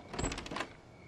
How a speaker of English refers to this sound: Matt's sister opens the door.